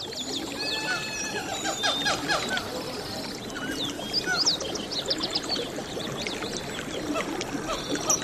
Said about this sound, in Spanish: Bueno, pues ya estamos ambientados aquí con los arroyos, los estamos, pajaritos. Estamos hiperambientados, sí. Porque he percibido hasta algunos sonidos tropicales.